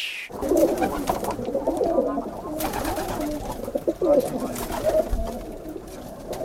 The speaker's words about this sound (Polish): to jeszcze wokół tego gołębnika, to tu jeszcze dzikich gołębi, jakichś kosów, wróbli. No ja nie jestem przeciwnikiem no, ptaków, ale to już, kurczę, jest trochę za dużo. I od samego rana, od godziny 7:30 do 8:00.